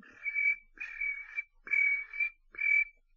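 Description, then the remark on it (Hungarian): A voice imitates a cricket, making four shrill, buzzy chirps in a steady rhythm with short gaps between them. The chirps are moderately loud, with no talking. “Itt vagyunk. Maradj csendben, ciripelj.”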